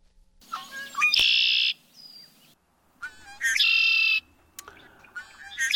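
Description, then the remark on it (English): Red-winged blackbirds calling twice in succession, each a rising gurgling note followed by a loud buzzy trill, then a third call begins; clear with no talking. “You'll be hearing those sounds pretty soon. Those are red-winged blackbirds.”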